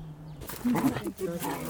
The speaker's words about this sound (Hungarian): A kutyák játszanak, a kutyák.